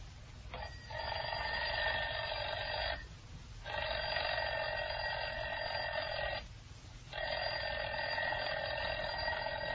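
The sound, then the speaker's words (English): A mechanical alarm clock bell rings loudly and continuously, a harsh metallic clatter broken by two brief pauses before starting again. “I just want you to listen while I ring this alarm clock.”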